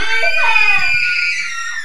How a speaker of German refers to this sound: Auf einmal kam ein Tyrannosaurus Rex auf sie zugerannt. Vor Angst begannen sie zu schreien.